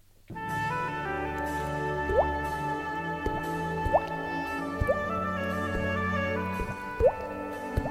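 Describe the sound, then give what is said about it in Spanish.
A voice imitates bubbles with popping, bubbly bloop sounds with a quick rising pitch, about five of them at irregular intervals, over steady sustained music playing in the background. “Pero tienes que hacer primero, mientras va entrando la música, tienes que hacer el sonido otra vez de las burbujas esas.”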